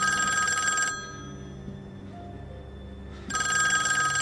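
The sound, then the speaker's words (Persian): A lobby telephone rings in two bright, trilling bursts separated by a pause of about two seconds, fairly loud against a quiet background hum, with no one speaking. “تلفن لابی نزدیک اتاق”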